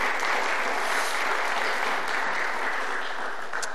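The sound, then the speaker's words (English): A crowd claps steadily as a woman is welcomed up, a dense, even wash of applause that holds at the same loud level from start to finish with no voices over it. “Let's give her a round of applause as she comes on up.”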